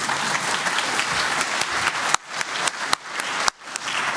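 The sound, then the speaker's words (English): An audience applauds a perfect round of presentations with dense, steady clapping that thins out in the second half, leaving a few louder individual claps at the end. “Round of applause for that real quick since we have the time.”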